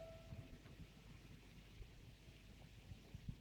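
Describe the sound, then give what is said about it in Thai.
Rain falls in a soft, steady wash, faint, with a low rumbling undertone and occasional small patters, on a cool day. No one speaks. “วันนี้ฝนตกพอดีเลยเย็น”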